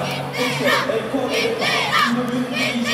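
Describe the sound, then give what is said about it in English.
Seated North Korean cheering squads in red tracksuits chant "stay strong" in unison at a hockey game, loud, with rhythmic rising-and-falling group shouts repeating every half second or so. “Chants of stay strong came from seated North Korean cheering squads in red tracksuits.”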